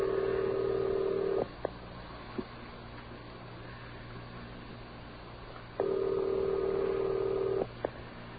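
A telephone ringback tone purrs through the earpiece twice, each long steady burst separated by several seconds of low line hiss, with faint clicks after each ring.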